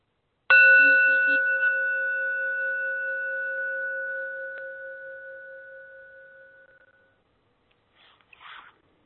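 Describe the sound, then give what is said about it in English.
A single Tibetan bell is struck once, giving a bright metallic ring with clear sustained tones that slowly fade over several seconds, followed by a brief soft rustle near the end. “Just start off with a little bit of centered breathing and a quick ring of the Tibetan bell.”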